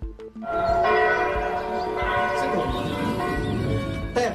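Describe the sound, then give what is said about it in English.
Several church bells rung by Gen Z bell ringers peal together loudly and continuously, their overlapping metallic tones clanging and sustaining with a rich, resonant wash of harmonics. “The Gen Z bell ringers, keeping an ancient tradition alive.”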